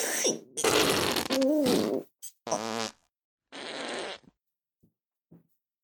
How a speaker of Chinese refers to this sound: 长达十分钟的恐怖放屁终于落下了帷幕。